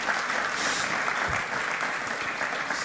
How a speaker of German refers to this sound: Applaus. Danke.